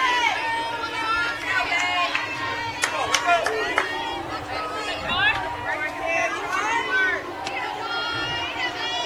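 An Indians baseball crowd at a game against the Rockets murmurs and calls out in a dense, steady wash of voices after a close pitch called just outside, with scattered shouts rising above the babble but no single clear cheer or boo.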